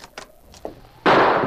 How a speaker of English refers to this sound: As the door opened, a shot rang out. The sergeant dropped to the floor.